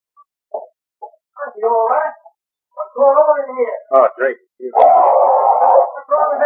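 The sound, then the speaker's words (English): A chained dog, just hit over the head with a chair, barks in short, uneven bursts, then lets out a longer, sustained howl before more yelping, loud with brief silences between outbursts. “What's wrong with that dog?”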